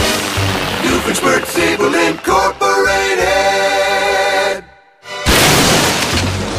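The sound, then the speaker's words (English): Music plays, then cuts to a brief silence before a loud, sudden crash of a solid oak door being smashed in by Larry the Platypus, with a broad, noisy burst that lingers to the end. “Larry the Platypus, why do you keep breaking down my doors?”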